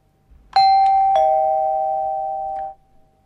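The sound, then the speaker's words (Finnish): A fully electric two-tone chime of the kind used as doorbells, serving as a radio interval signal, rings out clearly, a bright higher strike followed by a lower one, each tone ringing on and slowly fading, with no voices present. “Tällaisia käytetään nykyään nimittäin ovikelloina.”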